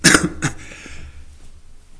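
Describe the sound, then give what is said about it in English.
Two quick, harsh bursts of throat clearing by a speaker during a sermon, the second a beat after the first, then a low hum lingering with no talking. “Excuse me, I'm going to, excuse me, I have to clear my throat there.”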